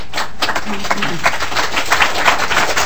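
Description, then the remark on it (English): An audience claps together in a hearing room, a dense, steady patter of many hands at moderate loudness, with a faint murmur of voices mixed underneath. “We're not going to have clapping or booing or any of the like in here.”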